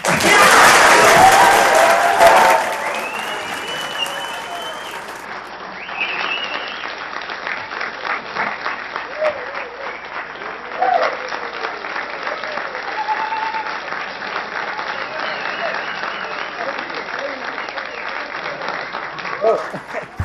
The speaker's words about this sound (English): For those of you that are here in orange shirts, I will take the liberties of as chair of the meeting. If you want to clap right now, you can.